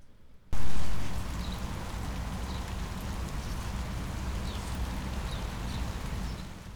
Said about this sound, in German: Wenn ich jetzt spreche, muss ich natürlich zurückdrehen, sonst wird das Ganze verzerren, aber man hat doch sehr gut gehört, dass es tatsächlich regnet.